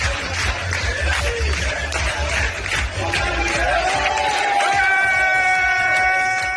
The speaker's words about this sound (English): I have a video, a really, really fun, enjoyable video, showing former U.S. Secretary of State and former CIA Director Mike Pompeo dancing with Israeli soldiers. So let's take a look. Clapping along.